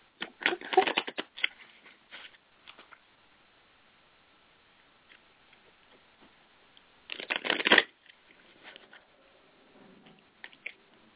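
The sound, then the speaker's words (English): A deck of animal cards being shuffled, two bursts of rapid riffling flutter separated by a quiet stretch of soft scattered clicks and handling sounds, with no voices. “I love that shuffle sound.”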